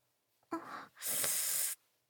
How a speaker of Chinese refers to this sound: 啊，我都已经忍不住开始喘息了